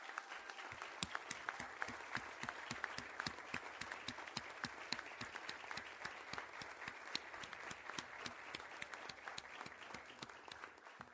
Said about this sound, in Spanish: Le quiero pedir a esas cimarronas que jugaron que se pongan de pie para que las podamos aplaudir.